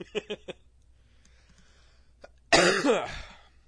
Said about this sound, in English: Now I'm all coughing and shit.